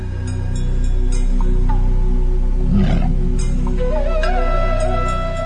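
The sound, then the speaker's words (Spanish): A Bengal tiger at Loro Parque lets out one deep, rumbling roar near the middle, surging up loud over a steady droning background, then fading back. “Si existe un animal que pueda disputar al león su trono de rey de la selva, ese es el tigre bengalí.”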